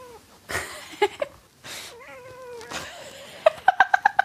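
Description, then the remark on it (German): A cat meows in a home office, one long wavering cry among a few shorter calls and scuffling noises, ending with a quick run of clipped, chirpy mews. “Aber Katze muss zur Corona-Zeit nicht drin bleiben, oder?”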